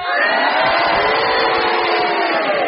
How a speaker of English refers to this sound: I think the cheers have it